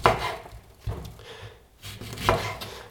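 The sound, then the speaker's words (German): A knife slicing the peel away from a second orange along the fruit flesh, with a few soft cutting strokes and scraping rubs, no voices present. “Auch die schön am Fruchtfleisch entlang schneiden.”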